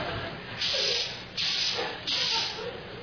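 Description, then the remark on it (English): Three quick, fairly loud hissing bursts of Exciting Hold hairspray from an aerosol can, sprayed onto a person, each lasting about half a second with brief gaps between them. “Did you spray this on me?”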